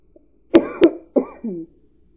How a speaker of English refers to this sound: Sorry if you hear my cough. I might have to edit that out of the audio.